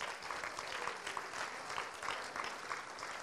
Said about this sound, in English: who's standing at the back looking embarrassed, and we'll give him another clap in a minute.